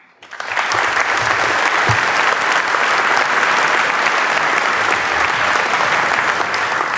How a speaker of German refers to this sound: Einen kleinen Applaus.